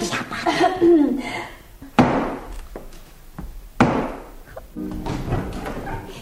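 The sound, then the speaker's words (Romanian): Several solid, loud knocks on a house door ring out, spaced unevenly over a couple of seconds, with people talking just before and after. “Acum, batem la ușă.”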